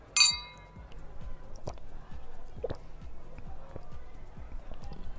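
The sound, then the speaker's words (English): A single bright clink of glasses touching in a toast at a party, ringing briefly, followed by soft rhythmic knocks and low background clatter. “To a good night. Cheers.”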